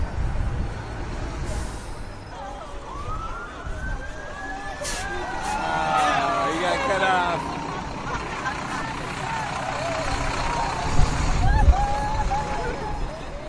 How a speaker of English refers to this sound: Now we have a couple of charter buses going on. We can go through.